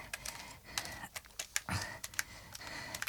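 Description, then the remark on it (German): A quick, irregular run of sharp computer clicks as someone clicks through photos, about a dozen taps over a faint background hiss, with no talking. “Oh, klick noch mal weiter”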